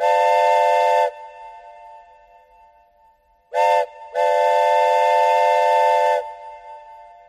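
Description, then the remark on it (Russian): A loud train whistle blasts in three bursts as the train slows for a station: a long opening wail, a brief sharp toot, then a sustained drawn-out blast that fades away. No one speaks. “Свисток и протяжный вой. Мы едем тише. Станция.”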